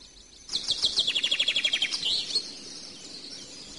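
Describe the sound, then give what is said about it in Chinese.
A quick, rhythmic burst of high-pitched chirps from small birds in the mountains being called down to rice by a monk, about a dozen notes in a fast trill lasting under two seconds, then fading into a soft outdoor hush. “小鸟们快下来啊，这儿有米，好吃啊。”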